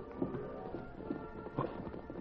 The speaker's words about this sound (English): When he heard the hoofbeats of approaching horses, he leaped to the dust-filmed windows.